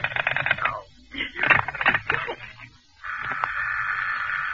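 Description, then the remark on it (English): A telephone rings in rapid, rattling trills, several short bursts of bright bell tone, then gives way to a steady, unbroken electronic tone that holds to the end. “Stop ringing me, do you hear?”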